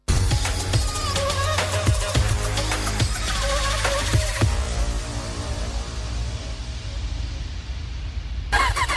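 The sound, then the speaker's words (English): A brand new AKT motorcycle engine rumbles loudly, with a few sharp revving bursts in the first seconds before it settles into a steady, deep idle. No one speaks. “Experience the ultimate bike life with a brand new AKT motorcycle from Quartz.”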